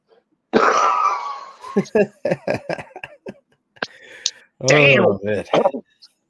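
A man coughs in a harsh fit: one long rasping hack followed by a rapid string of short coughs, then a strained, groaning throat sound as he recovers.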